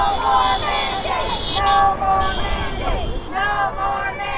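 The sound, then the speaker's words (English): An outdoor crowd of hundreds protesting COVID-19 vaccine mandates chatters loudly at Maxey Park near Covenant Children's Hospital in Lubbock on a chilly Sunday afternoon, lined up along a busy thoroughfare beside a steady roar of traffic, with a couple of sustained car horns blaring, one around the middle and another near the end. “Protesters wear patriotic attire as they line up along a busy thoroughfare.”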